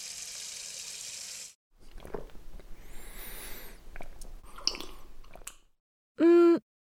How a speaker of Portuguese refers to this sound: Olha, dá-me um segundo para beber um pouco de água aqui na fonte.